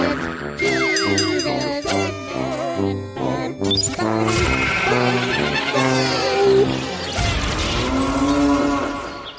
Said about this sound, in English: The cow gets me every time.